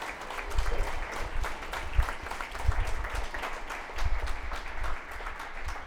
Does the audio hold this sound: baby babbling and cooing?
no